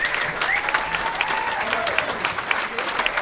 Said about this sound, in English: Would you please give a wonderful, wonderful, wonderful round of applause